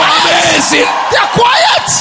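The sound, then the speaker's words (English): An audience shouts amen together in a loud, continuous burst of overlapping voices, raised cries and whoops blending into a dense, energetic roar for about two seconds. “When everybody is shouting amen,”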